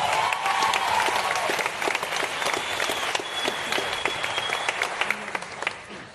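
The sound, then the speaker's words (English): An audience applauds the Cliff Central team steadily for several seconds, a dense wash of many hands clapping at once, loud and even throughout with no talking over it. “And I think it's an incredible cause, and I think the Cliff Central team need another big round of applause.”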